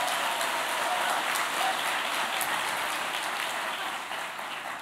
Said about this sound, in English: Could you guys give them a round of applause for helping out?